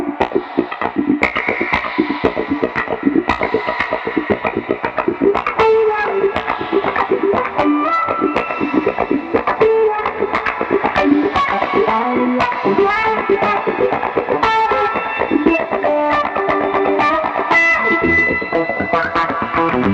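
A heavily effected instrument played in a steady, percussive rhythm, with distorted, dense tones washed in dark, ominous reverb. It stays loud and continuous throughout, with no voices.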